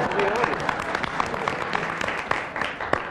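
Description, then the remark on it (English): A crowd applauds steadily for about three seconds, a dense patter of many hands clapping at an even loudness, with faint voices mixed in beneath. “I think we applaud the audience.”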